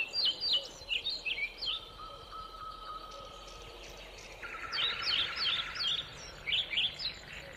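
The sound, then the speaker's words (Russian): Thin, high whistles and twittering chirps from birds in a pine forest come in quick bursts at the start and end, with a soft sustained whistle in between, set against a quiet outdoor background. “Шли без дорог, перебирались через сухие болота, мшары, где нога тонула по колено в сухих коричневых мхах, слушали тонкое посвистывание птиц.”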